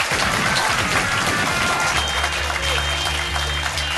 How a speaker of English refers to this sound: Ladies and gentlemen, massive round of applause for Tessa and Stevie.